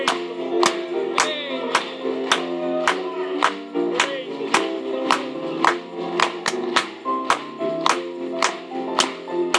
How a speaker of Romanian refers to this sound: Hai să o aplaudăm Lui în seara aceasta.